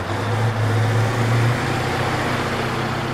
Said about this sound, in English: Dump trucks rumble in, carrying garbage bags from about 24 cities and towns. The trucks empty the trash onto a warehouse floor, where a bulldozer pushes it into a massive pit.